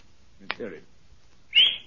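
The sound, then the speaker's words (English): A person gives one short, sharp whistle as a signal, loud, rising slightly in pitch. Just before it come a brief click and a low murmur of a voice. “When you've finished and got your money, you whistle and these gentlemen.”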